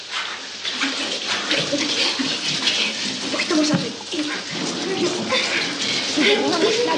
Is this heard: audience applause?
no